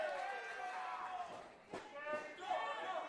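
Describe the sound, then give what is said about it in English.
A couple of sharp wooden impacts as a door, retrieved from under the ring by wrestler Effie, is put to use in a GCW wrestling match. The impacts cut through steady voices and crowd noise in the middle of the stretch, moderately loud. “I mean, John Ross Sapp, he had a little bit of introduction to GCW with the minute or so that he was in the cluster, but now it's a door being put to use.”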